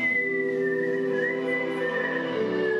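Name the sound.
human whistling a melody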